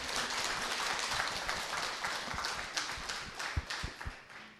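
An audience breaks into warm applause, many hands clapping in a dense, steady patter that holds for several seconds with a few sharper claps standing out and no voices.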